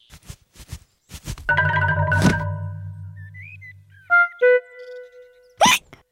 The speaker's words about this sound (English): still has hiccups.